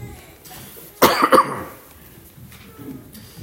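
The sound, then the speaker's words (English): A speaker gives a couple of sharp coughs in quick succession, loud against an otherwise quiet background with faint noise before and after. “I'm going to have to cough.”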